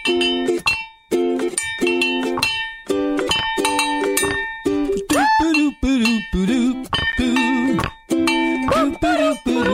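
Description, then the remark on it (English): A small frog bell struck over and over in a quick, uneven rhythm, each hit giving a bright, ringing metallic tone, with some notes bending slightly in pitch. “Who needs more frog bell?”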